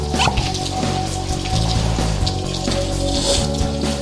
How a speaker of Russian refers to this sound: Сколько нужно для фуагры? Буквально чайную ложечку, может быть, две? Да, примерно. Я наливаю. Да, давай. Фуагра без коньяка, я тебе доложу, это вообще ни о чем. Коньяк дает замечательный, Да куда, блин? Капельку так, капельку.